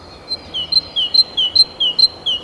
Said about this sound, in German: Es ist kurz vor um 5:30 Uhr, ein schöner Frühlingsabend, Vögel, die zwitschern.